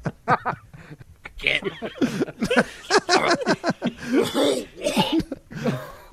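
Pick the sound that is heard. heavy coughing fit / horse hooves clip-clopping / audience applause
heavy coughing fit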